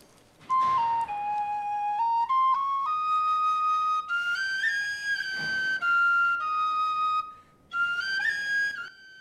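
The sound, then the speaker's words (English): A prisoner standing in a prison cell plays a penny whistle: a slow, clear melody of sustained notes stepping up and down, with brief pauses between phrases, played alone. “The prisoner stands and starts to play a penny whistle.”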